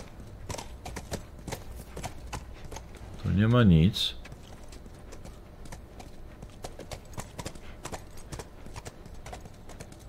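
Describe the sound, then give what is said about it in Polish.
Steady, rhythmic clip-clop of the hooves of a ridden horse carrying two riders on a hard surface, with a brief loud horse whinny in the middle and a person speaking briefly. “Słuchajcie, ona za mną na tym koniu tu jedzie.”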